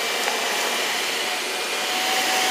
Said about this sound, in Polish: Kilometry długich korytarzy, w których nie rozbrzmiewało nic oprócz odgłosu jej kroków, coraz szybszych, tak, że gdy usłyszała szum odkurzacza i głos, praktycznie już biegła. Wyłoniła się ze zakrętu i ujrzała sprzątacza.